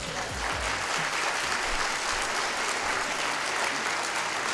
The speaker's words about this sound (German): wir lassen die wunderschöne Dame mit unserem Briefumschlag mal auf die Bühne kommen und dafür kriegen wir wahrscheinlich auch nochmal einen richtig fetten Applaus.